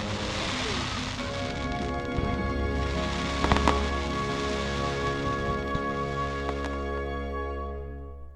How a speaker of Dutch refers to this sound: Oh ja, we liepen met al die Sheffielders door het park. En toen zagen we met z'n allen het grote vuurwerk.